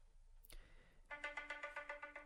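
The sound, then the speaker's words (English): A brief click, then someone's phone starts ringing with a bright electronic ringtone that pulses in quick, even beats, clear, with no voices. “Every time I'm about to read one of these parables, one of these fables, your phone goes off.”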